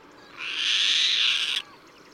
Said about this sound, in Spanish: La mañana fresca avanza en Cabañeros. Las voces de las aves que cruzarán hoy su luminoso cielo se propagan por el aire y no empezarán a apagarse hasta el atardecer.